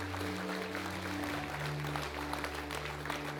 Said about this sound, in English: Would you give a hand clap for those that prayed that prayer?